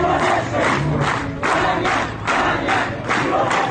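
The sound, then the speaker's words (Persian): A large crowd at the burial of Zaniar Abubakri in Bagh-e Ferdows cemetery clamors continuously, many voices shouting together in loud, swelling waves that rise and fall roughly every second, with chant-like surges and no single voice standing out. “پیکر زانیار ابوبکری در همهمه قبرستان باغ فردوس ساعتی بعد در کنار مزار کبرا شیخه که او هم همان روز جان باخت در حضور جمعیت به خاک سپرده شد.”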